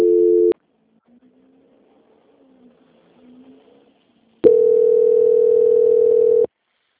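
Telephone line tones while a call is transferred to a quality control department: a steady buzzing tone cuts off, faint low warbling tones follow, then a loud, steady tone sounds for about two seconds. No one speaks.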